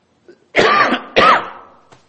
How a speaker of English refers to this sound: I'm gonna cough again.